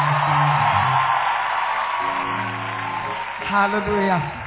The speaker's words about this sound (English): Please give that general of God a big, big, big hand. To God alone be all the glory. We are grateful. Let us clap very well so that he can let us do the next one.